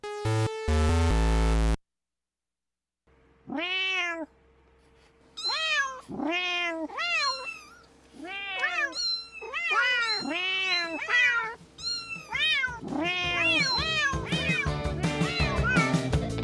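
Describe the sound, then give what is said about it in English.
A cat meows over and over, a long series of loud, drawn-out meows that crowd together toward the end, following a brief burst of music at the start. “And in case you don't speak cat”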